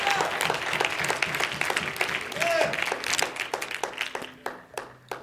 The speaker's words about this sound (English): Go ahead and say amen and give God a hand clap of praise.